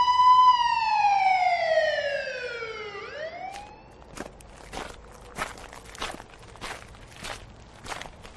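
A police siren wails loudly, sliding down in pitch for a few seconds and starting to climb again before cutting off, followed by a string of steady footsteps.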